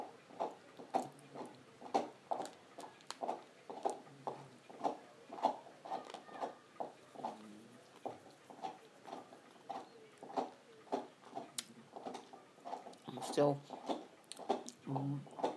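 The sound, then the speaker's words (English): Munching on a snack, a steady run of crunchy chewing bites repeating every fraction of a second for the whole stretch, loud. “Munching my way through this.”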